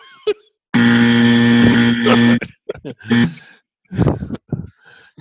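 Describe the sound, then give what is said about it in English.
A loud, harsh buzzer blares in one steady, unbroken tone for nearly two seconds, then cuts off. Brief bursts of voices follow. “Okay, thanks for buzzing.”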